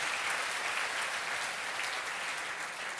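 A crowd claps steadily, a dense, even wash of many hands filling the room for a few seconds without a break, with no one speaking over it.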